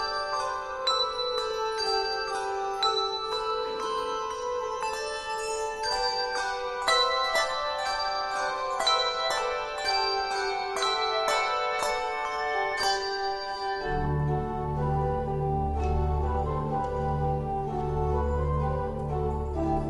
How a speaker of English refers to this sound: The bells that rang out with sorrow, and they did, because there is sorrow. Now these bells ring out in joy.